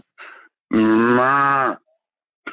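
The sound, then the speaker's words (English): A cow gives one long, loud, drawn-out moo lasting about a second, preceded by a brief breathy snort, with nothing else around it. “No, did I tell you what the cow said?”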